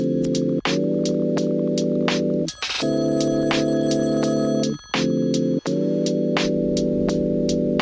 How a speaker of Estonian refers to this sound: Oi näe, keegi helistab, ma ei viitsi vist astu võtta.